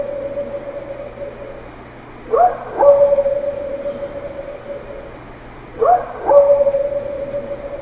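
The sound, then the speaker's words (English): Two short, sharp dog barks about three seconds apart, each a quick rising yelp, heard over a steady low drone with no one talking. “Well, the first one is a whoop, and the second one is a dog bark.”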